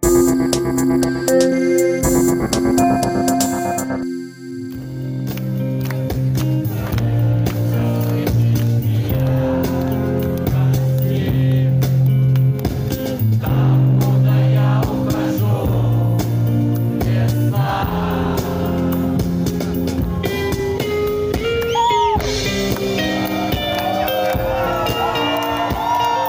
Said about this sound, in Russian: Вот так вот толпа на киевском фестивале «Атлас Уикенд» пела песни российского артиста